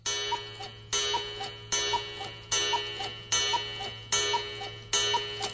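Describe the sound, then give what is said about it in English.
A clock ticks steadily at 7 o'clock, seven evenly spaced, fairly loud strokes about a second apart, each with a short ringing decay, with no talking. “There's the time. 7 o'clock.”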